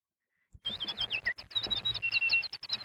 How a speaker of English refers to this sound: He pocketed the note and stepped outside where the sky was a clear, bright blue. The sound of chirping birds filled the air.